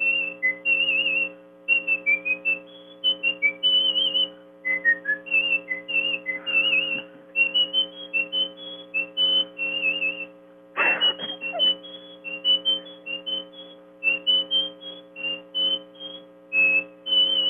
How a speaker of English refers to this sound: Okay, well, can we have a sample of some whistling then while we're here?